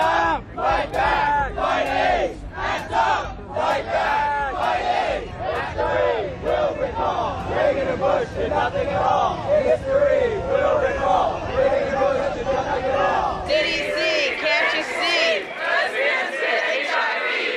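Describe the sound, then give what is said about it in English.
A large crowd of activists protesting at the White House chants and shouts together, "Bring the dead to your door! We won't take it anymore!", a loud, continuous mass of voices with rhythmic bursts; near the end the low rumble thins and higher-pitched voices carry the chant. “Activists carried ashes of dead family members and flung them on the lawn of the White House.”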